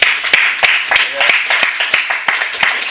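An audience gives a round of applause for the moms present, a dense wash of many hands clapping with sharper individual claps popping out at irregular moments, holding at a fairly loud, even level throughout.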